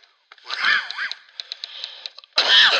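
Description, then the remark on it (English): A harsh coughing fit from a person still recovering from a cold: raspy, wheezing hacks, then a string of short sputtering coughs, ending in one more loud, strained burst. “Man, that shows you that I'm still not over this crap. It's not like I'm coughing and sneezing every minute.”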